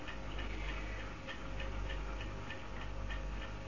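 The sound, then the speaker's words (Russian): A silver pocket watch ticks in a steady, quick rhythm, each tick crisp against a faint low hum, with no voices. “Серебряные часы Парагура.”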